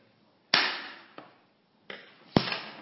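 Four sharp hand claps with no one speaking, spaced a little unevenly, given as cues in a counting game; the first and last are the loudest and each has a short ringing tail.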